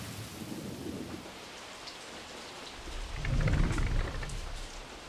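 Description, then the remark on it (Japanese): Steady rain from a sudden passing shower patters and hisses across the whole stretch, swelling into a heavier downpour with a low rumble of thunder midway before easing slightly, as it grows dark. No voices. “通り雨でしょうか。”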